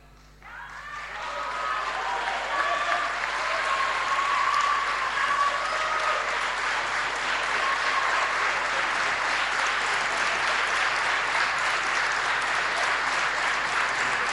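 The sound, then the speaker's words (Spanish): At a handover-of-command ceremony, a large audience gives loud, sustained applause to bid farewell to outgoing governor María Eugenia Vidal and outgoing vice-governor Salvador, swelling within the first two seconds and holding steady, a dense wash of clapping hands with no talking over it. “Despedimos a la gobernadora saliente y al vicegobernador saliente con un muy fuerte aplauso.”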